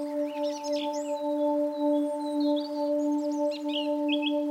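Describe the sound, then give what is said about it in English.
Birds sing and chirp in quick, high warbling phrases throughout, over a steady low droning hum that holds constant beneath them. No one speaks. “Ah, the sounds of birds.”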